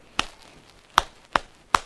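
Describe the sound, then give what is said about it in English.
Four sharp, crisp hand claps with uneven spacing: a long pause after the first, then three quicker ones, made before singing the ABC song. No voices. “One clap.”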